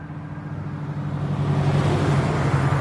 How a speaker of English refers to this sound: Los Angeles, 1989. Cars and pedestrians traverse an intersection.